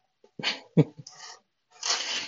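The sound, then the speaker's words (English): A cat meows loudly, several short, strained calls in quick succession with brief pauses between them, no voices around it, as it comes into a room. “Oh my goodness, we have a loud cat coming in the room.”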